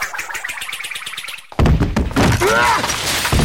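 After a soft, steady rhythmic patter, a person falls with a sudden loud thud that bursts into a long, clattering crash of a shattering crystal chandelier, with bright tinkling pieces of glass and crystal ringing on as the debris settles.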